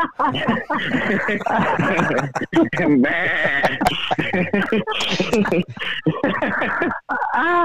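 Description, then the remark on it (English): A baby lamb bleats repeatedly in high, quavering cries, fairly loud, with several bleats running together across the whole stretch and some voices mixed in. “Baby lambs.”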